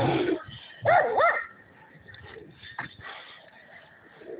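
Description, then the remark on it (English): A male dog behind a fence, eager to get out, barks and growls, with a loud pair of sharp, whiny barks early on followed by quieter low rumbling and scattered noises. No one speaks. “He kind of growls a little bit.”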